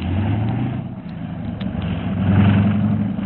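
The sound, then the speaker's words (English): Two cars' engines idle outside in Baghdad with a steady low rumble and hum, a droning tone that rises slightly in pitch and loudness partway through, as if one engine is revved gently. “Two cars are out there, Mr.”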